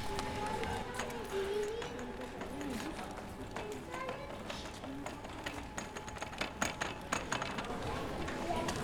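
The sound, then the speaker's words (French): High heels click steadily across the stone floor slabs of a church, each sharp strike ringing off stone walls, growing more pronounced toward the end over a constant low murmur. “Le bruit des talons qui résonnent sur les dalles et qui rebondissent sur les parois de pierre.”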